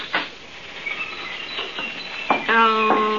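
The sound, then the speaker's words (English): Scattered high parakeet chirps and twitters in a pet shop full of birds, with parakeets in a big cage, several quick calls overlapping, followed by a sustained voiced sound, maybe a person, near the end. “The whole place is full of birds. Yeah. Look at all the parakeets over here, McGee, the big cage.”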